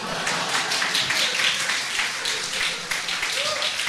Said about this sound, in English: I'm waiting for clapping right now.